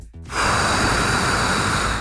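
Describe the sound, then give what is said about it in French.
A short voiced intake is followed by a steady, loud rush of breath blown straight into a phone microphone, a broad roaring hiss that holds for almost two seconds with no talking. “est-ce que vous pouvez souffler à nouveau, s'il vous plaît, mais bien dans votre micro?”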